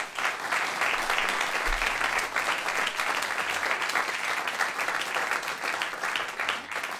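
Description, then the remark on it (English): Steady, sustained applause from a concert audience fills the whole stretch, a dense wash of many hands clapping at once with no voices standing out. “So please give them all a round of applause.”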